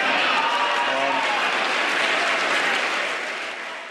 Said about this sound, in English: And that round of applause, of course, came from Democrats.